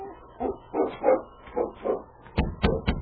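A husky named King whimpers in a series of short, whiny cries, then lets out three quick, sharp barks, with no one talking.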